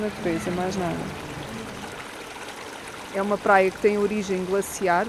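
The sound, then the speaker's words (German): A glacial mountain stream running through a glacial valley at the river beach of Loriga, Portugal, rushes and burbles in a steady, continuous wash, while a person talks over it in two bursts, the water noise filling the pause between. “Das Wasser sucht sich seinen Weg in einem Gletschertal.”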